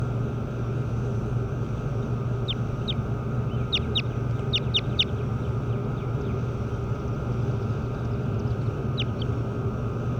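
Birds give short, high-pitched chirps, a quick burst of several in the first half and a couple more near the end, over a steady low rumbling drone.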